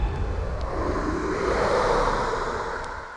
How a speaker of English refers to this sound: A gust of wind swirled around Joan, stopping her in her tracks.